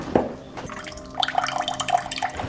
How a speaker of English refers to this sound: This is an full water pressure in the kitchen.